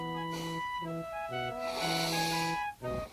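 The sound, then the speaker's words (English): A few loud, exaggerated nose sniffs, drawn-out and breathy, with a longer snorting inhale in the middle, played over a steady tune of sustained musical notes. “If I had a really, really big nose, so big, so huge, that I was almost just one big nose, all I could do is sniff.”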